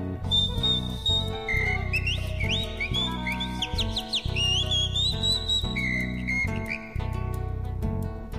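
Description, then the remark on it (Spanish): A bright, warbling calandria (mockingbird)-style whistle with quick upward slides and trills runs continuously over a steady instrumental backing, loud; it sounds like a person whistling in imitation of the bird. “Silba la calandria.”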